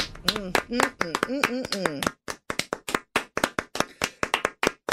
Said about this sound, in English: Oh, jeez. I'm trying to wrap it up, but listen, you guys just keep on clapping.